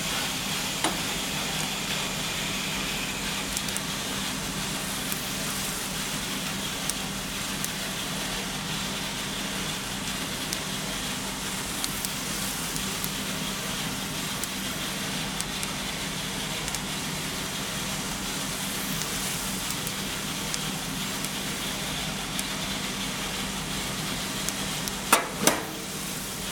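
Grain roasting with a steady sizzling hiss and a low mechanical hum, sparse faint crackles scattered throughout and a couple of sharper pops near the end; the crackling comes from the grain swelling 20 to 30 percent in volume as its outer layers, under tension, burst.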